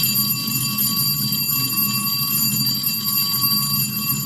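school bell ringing

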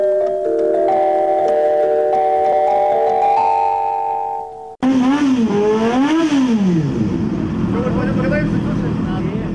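motorcycle engine revving

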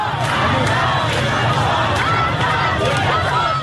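protesters shouting

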